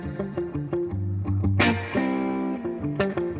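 A clean electric guitar played through a Princeton amp, picking a melodic phrase of single notes and chords with a light, subtle reverb tail, steady, with no voices.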